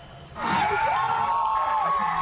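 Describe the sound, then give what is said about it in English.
A crowd erupts into loud cheering after a brief quieter moment, on hearing that the Supreme Court had overturned Roe versus Wade, with sustained shouts and rising whoops from many voices blending together and continuing without letup. “When the crowd heard the court had overturned Roe versus Wade, there were cheers.”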